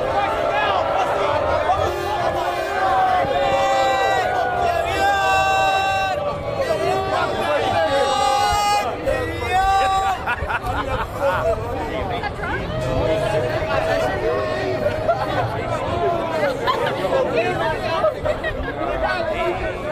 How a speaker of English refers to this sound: But you can hear there how many people are booing, and you see Donald Trump wave as he goes by and everyone's booing and booing and booing.